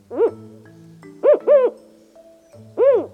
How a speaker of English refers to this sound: Was that a condor? Still no. This one is a Mexican spotted owl. Mexican spotted owls are large, up to 19 inches tall. They're brown and, unsurprisingly, spotted.